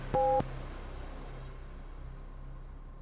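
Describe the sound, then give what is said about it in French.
A single short electronic beep made of two blended tones, like a phone keypad press, sounds loudly at the start and then gives way to a low, steady hum. “Restez à l'écoute, l'épisode commencera après le bip!”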